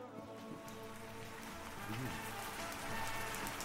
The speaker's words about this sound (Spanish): Ay, vaya, empieza a llover.